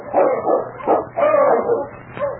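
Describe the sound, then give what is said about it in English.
A sled dog team barking and yipping in overlapping bursts as it returns, several dogs at once, fairly loud, with a few whining notes mixed in and no talk. “The following day, Ulak had gone out to hunt when Sergeant Preston heard the sound of his dog team, which meant Keok's return.”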